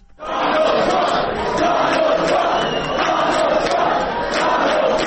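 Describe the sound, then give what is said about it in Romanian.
A large crowd at a US election night celebration in Phoenix, Arizona, cheers and shouts continuously, a dense, loud roar of many voices with scattered whoops rising above it, sustained without pause for the whole stretch. “Tabăra democraților s-a sărbătorit zgomotos în noaptea de marți spre miercuri, cu mesajul Let's make America great again, în traducere din engleză, să facem America din nou mare.”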